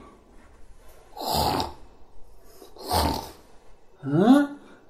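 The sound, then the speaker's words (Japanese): Two loud, rasping snores about a second and a half apart, each a rough, breathy rumble, followed by a short questioning voice. The snoring seems to be imitated by a performer's voice. “なんだあのいびきは？寝てんのか？起きてんのか？”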